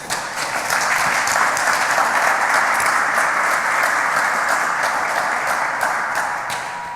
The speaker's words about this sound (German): Da kriegt man gutes Feedback. Bitte dafür einen ganz großen Applaus.